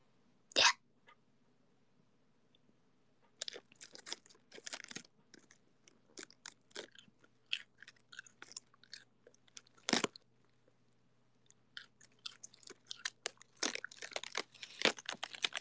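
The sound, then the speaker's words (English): Crisp crunching of someone chewing a cold, crispy head of lettuce, with a sharp bite at the start and then irregular bursts of wet, crackly munching; no talking. “I'm eating lettuce.”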